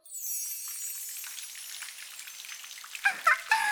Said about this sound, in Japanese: 毎回桶でお湯を汲んでかぶるのは面倒でしょうか。なので魔法を開発しちゃいました。どうかしら。雨がお湯になって降り注げば体が洗いやすそうじゃない。